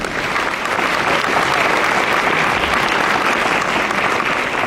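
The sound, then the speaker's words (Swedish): Steady audience applause welcoming speaker Johan Hassel at an event on sustainable urban development, a dense wash of many hands clapping at an even, loud level without letting up. “En stor applåd, Johan.”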